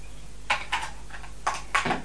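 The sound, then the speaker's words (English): A frying pan clatters as a pancake is flipped: two pairs of short, bright metallic knocks over a faint steady background hum with no talking. “With the frying pan, you can flip them over. Flip.”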